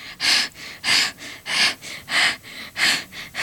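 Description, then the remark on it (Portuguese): Heavy, rapid panting breaths, about eight in quick rhythmic succession, loud, from a sweating boy out of breath while running away. No voices. “Suspirava e expirava, com o suor a escorrer pelo rosto e já com lágrimas nos olhos.”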